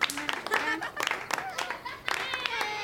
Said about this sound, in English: Clap for yourselves.